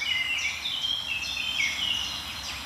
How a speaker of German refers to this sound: Die Kleiber drehen wieder auf. Die waren lange Zeit relativ unsichtbar.